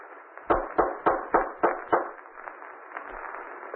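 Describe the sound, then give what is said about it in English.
Six firm knocks on a wooden front door in a steady rhythm, each a sharp thud with a low body, followed by a faint hiss of quiet afterward. “I better knock again.”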